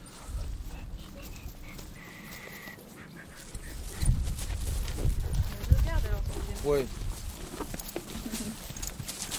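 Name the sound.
horse hooves clip-clopping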